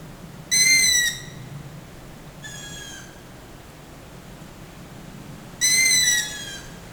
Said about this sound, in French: Les oiseaux de nuit.